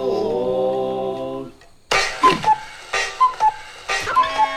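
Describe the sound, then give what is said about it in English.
A cuckoo clock on a wall, with tiny wooden doors, goes off: a sustained piping tone, then a rhythmic series of whirring mechanical bursts, each carrying short bright whistle-like notes, loud. “He doesn't notice the cuckoo clock on the wall, whose tiny wooden doors conceal not a cuckoo”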